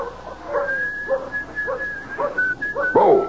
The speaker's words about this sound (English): As with Dan Bowles, whistling softly to himself while he hitches up the buckboard, enjoying the prospect of the trip to town as any lone cowboy would.